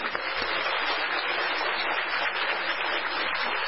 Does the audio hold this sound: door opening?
no